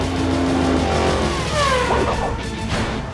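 A dog's rescue vehicle engine drones steadily as it drives up a ramp into a mobile pit stop, revving with a rising whine about halfway through before settling back into a loud, continuous rumble. No one speaks.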